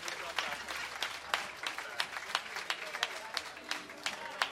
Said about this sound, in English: I want you guys please to join me again and give the dancers a round of applause.